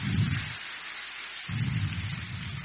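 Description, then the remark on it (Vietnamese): A crowd of students applauds to welcome Venerable Thích Đạo Thịnh, abbot of Khai Nguyên pagoda, on the dharma seat, with a dense, steady crackle of many hands clapping for about three seconds, with a brief dip in its low body midway before it swells again. No one speaks. “Và thời giờ này thì thầy đã hiện diện trên pháp tòa, đề nghị toàn thể các em cho một tràng pháo tay để chào đón thầy.”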